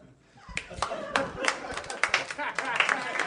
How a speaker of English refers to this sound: You guys are clapping wearily, like anyone asked you to clap.